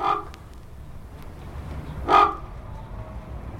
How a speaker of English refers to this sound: A legend has grown up that if these birds fly away, the tower will collapse and the British Empire will fall. To stop this happening, 6 ravens are kept here on government rations. Their eerie croaks echo through the tower grounds.